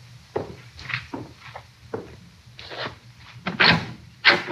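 A door is opened with a string of wooden clunks and scraping rattles, irregular and moderately loud, ending in two sharper bumps as it swings free. No one speaks.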